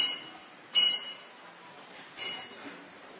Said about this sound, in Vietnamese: Chị nghe hay là chuông đánh rồi?